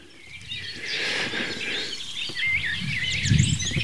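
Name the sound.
eurasian blackcap song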